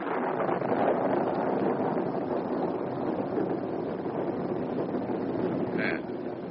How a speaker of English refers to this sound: Wind has dropped. It seems we shall get a storm.